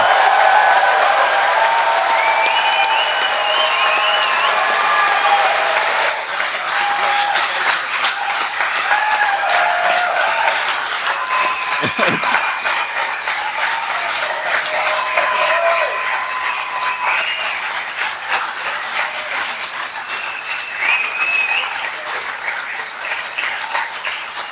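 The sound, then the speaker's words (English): A large audience applauds steadily for over twenty seconds, loud at first and easing slightly, with scattered whoops and cheers rising above the dense clapping. “I think then we have to give Jonty a round of applause as well, because he's been dealing with all of the speaker.”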